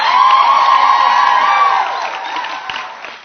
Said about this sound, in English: So just give them a round of applause again.